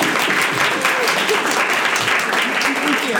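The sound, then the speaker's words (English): An audience at an evening author event applauds the two hosting authors, including Sarah Glenn Marsh: a dense wash of many hands clapping at an even, fairly loud level throughout without pause or swell. “Now you can applaud us, Sarah.”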